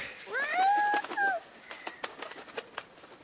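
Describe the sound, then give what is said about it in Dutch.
A bird lets out a loud, harsh squawk lasting about a second, its pitch rising and then sliding down, followed by scattered faint clicks and rustling. “Die vogel is een bemoeial.”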